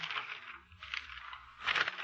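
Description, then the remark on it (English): Pages of a telephone book being flipped, a dry papery rustling in three quick bursts with brief pauses between, no voices. “Listen, Mr. Avery. The sound of the flipping pages.”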